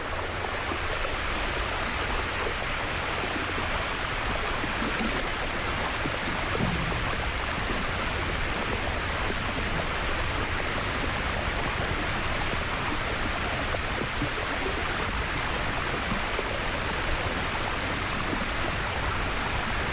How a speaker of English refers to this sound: and of course there's one time where we came within 3.5 meters of Osfana, the ice shelf, which had the most incredible waterfalls. Of course, the waterfalls is the glacier melting.